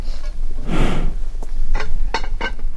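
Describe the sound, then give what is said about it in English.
A sedated grizzly bear, darted with an immobilizing drug, breathes slowly and heavily: one long, rough exhale, then a few shorter, softer puffs of air over a low steady rumble. No one speaks. “The bear's breathing is slow.”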